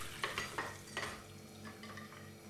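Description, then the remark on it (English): A few quick clinks and scrapes of kitchenware against a hissing, watery background as dishes are washed in a sink, with no one talking. “I'm washing the dishes.”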